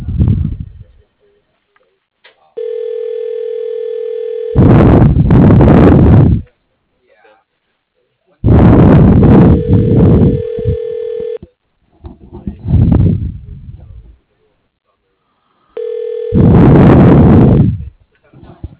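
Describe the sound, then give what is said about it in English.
A telephone rings while a call to a Construction Services line is being transferred to an extension: a steady, mid-pitched electronic ring tone repeats three times, with loud bursts of rough, muffled noise alternating between the rings. “Please hold while your call is being transferred to”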